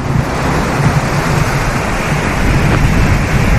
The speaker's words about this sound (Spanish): Esto que escuchan es el sonido del mar.